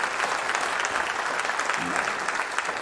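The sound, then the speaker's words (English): A large audience claps steadily for the volunteers during a church service, producing a dense, sustained wash of applause at a fairly loud, even level with no clear breaks. “And would you give them all a round of applause today?”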